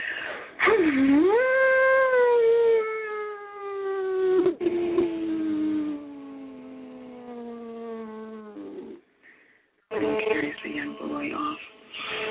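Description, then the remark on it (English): A voice imitates a howling, dusty sand wind: one long, wavering moan that swoops up, then slowly sinks in pitch for several seconds before breaking off, followed by a brief burst of rougher vocal noise. “Boy, it's dusty and windy out here.”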